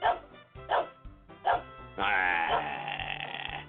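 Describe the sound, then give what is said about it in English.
A dog named Ted barks four times in quick, uneven succession, then breaks into a longer, drawn-out whining bark that trails off. The sound is fairly loud, with no talking. “Ted won't quit barking.”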